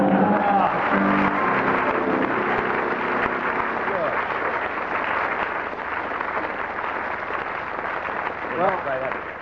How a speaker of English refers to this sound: And the consequence was... the audience broke into spontaneous laughter and prolonged applause.